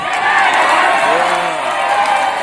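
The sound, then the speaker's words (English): A large crowd cheers and roars in a loud, steady wash of voices, with a single rising whoop breaking out above the din partway through. “That's when people stopped shouting and started cheering.”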